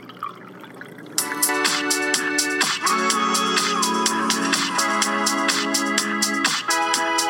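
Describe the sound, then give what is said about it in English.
After a brief quiet moment, whiskey is poured into a glass, a steady, splashing stream with bright ringing tones and quick glugs that continues for several seconds. “Keep pouring, my friend.”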